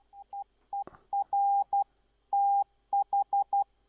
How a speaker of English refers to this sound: Okay, let me just give you a short example of Morse.